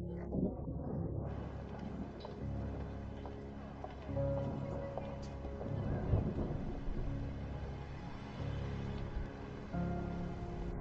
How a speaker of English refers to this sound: You look at the sky and see large clouds full of water about to fall. The sounds of thunder and lightning begin to appear.